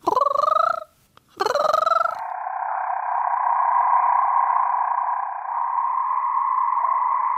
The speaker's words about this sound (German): Ja, der Ton vom roten Marmorkrötchen ist nicht besonders typisch für einen Frosch. Es ist nicht das übliche Quaken, was man kennt, sondern es hat ist so ein Mix aus Frosch und Vogel und so ein bisschen Metallen. Also schon ein sehr eigenartiger Ton.